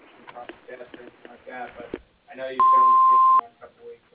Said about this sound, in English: Hi. Thank you for calling First Choice Builders. Sorry we can't take your call at this time, but if you leave your name and number after the beep, we'll call you back.